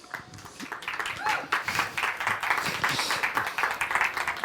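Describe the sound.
A crowd applauds two presenters about to give a talk, steadily, a dense wash of many hands clapping that stays loud and fairly even throughout, with a faint murmur of voices underneath.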